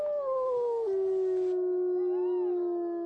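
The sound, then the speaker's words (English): A single wolf howl, loud, starting slightly higher and sliding down into a long steady mournful tone that holds to the end, with no other sounds around it. “And now, let's find out what living with wolves is all about.”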